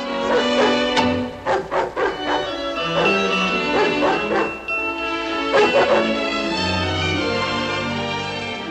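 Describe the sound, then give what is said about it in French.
A dog gives several short, sharp barks and yips in bursts, between drawn-out whining whimpers, as it is driven out of the children's nursery. It is fairly loud, with a steady tonal background beneath it. “Pauvre Nana, la voilà chassée de la nurserie”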